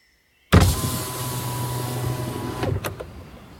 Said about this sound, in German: kurbelte das Fenster herunter.